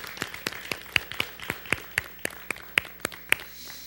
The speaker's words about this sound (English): Just give the Lord a hand clap now. Thank you, Lord.